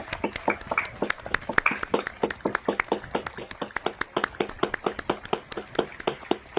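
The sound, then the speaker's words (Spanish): Applause from outdoors, picked up from outside the studio as the country applauds those fighting the coronavirus, such as researchers: many hands clapping in a steady, dense patter of sharp, crisp claps that continues throughout at a moderate level, with faint murmuring underneath. “Y nosotros también nos unimos a ese gran aplauso.”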